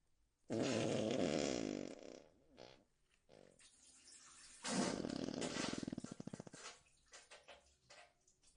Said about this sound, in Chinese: 怎么还在放屁、啊、不对，臭味加重了，不只是屁臭味。